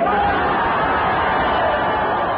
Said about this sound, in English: And with careful timing of both onstage sounds and offstage recordings, the oral effect, as interpreted by the listeners, sound exactly like the cheers of a great crowd echoing in the distance.